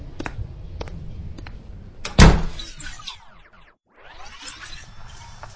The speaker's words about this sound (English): And close the door as you leave.